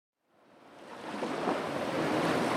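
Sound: ocean waves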